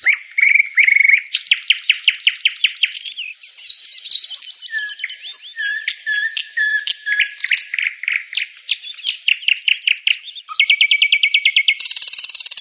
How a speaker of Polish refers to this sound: ale słowik szary bardziej tak właśnie terkocze takie trrr, no, trochę inaczej, bo ja nie jestem słowikiem, więc nie robię tego ładnie.